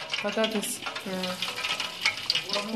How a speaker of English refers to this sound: In the next room, a man and a woman chat over a huge pan of boiling oil. They're fixing dinner, French fries, canned hummus and pickles.